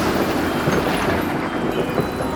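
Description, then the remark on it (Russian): A steady, dense hiss of rain pours down without pause, filling the whole clip at a fairly loud, even level, with no voices over it. “Дождь! Вот вода для придворной дамы.”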